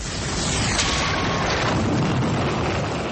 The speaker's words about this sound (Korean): 이탈리아 나폴리만 연안에 있는 베수비오 산에서 화산이 폭발했습니다. 이 화산 폭발로 당시 번영하던 로마 제국의 도시인 폼페이가 화산재 속에 자취를 감추고 맙니다.